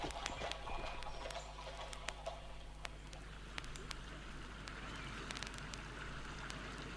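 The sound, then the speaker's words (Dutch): Hooves of a mounted postal courier's horse clip-clop in a loose, uneven rhythm over a steady wash of background noise and a low hum, with no one speaking. “Tot halverwege de vorige eeuw geven de mensen hun brief mee aan een bode te voet of een postillon te paard.”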